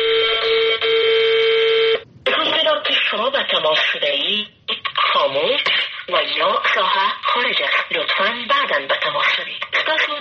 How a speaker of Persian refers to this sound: این روزها تلفن‌های تماس با وزرا، مسئولان و مشاوران و معاونان دولت اشرف غنی در افغانستان یا خاموش است یا بوق ممتد می‌خورد. هیچ کس نمی‌داند این صدای زنی که خبر از خاموش بودن دستگاه تلفن را می‌دهد تا هفته آینده به یک صدای مرد تبدیل می‌شود